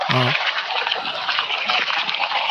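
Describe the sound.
The wheels of the speakers' vehicle roll over gravel as it drives past, with a steady, loud, grainy crunching hiss lasting the whole stretch. A brief voiced sound is heard at the very start.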